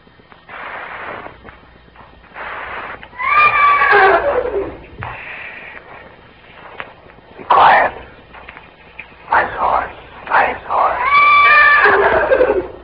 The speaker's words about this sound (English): Shut up, horse.